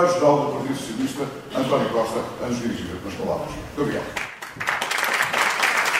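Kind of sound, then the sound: crowd, applause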